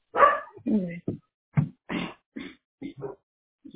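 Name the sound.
dog barking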